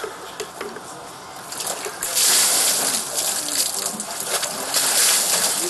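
Water splashes and sloshes loudly as someone plunges into a large wooden tub, half a person's height, set under the windows of a prison church for Epiphany bathing at a general-regime penal colony, the splashing swelling after a quieter start and churning on in bursts, with faint voices in the background.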